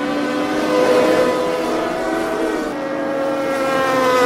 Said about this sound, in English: The one person racing boats only weigh a few hundred pounds, and they look like Indy cars on the water, and they sound almost as loud.